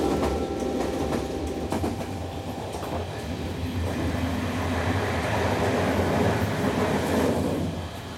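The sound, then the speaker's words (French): A locomotive, number 5 of la Gabardière departing from Chemillé, releases its brakes and rumbles steadily along the rails. It makes a dense low roar with rhythmic clicking of wheels and faint metallic squeals, holding at a constant loud level throughout with no voices. “La locomotive numéro 5 de la Gabardière, au départ de Chemillé, lève les freins et file vers la destination de votre choix.”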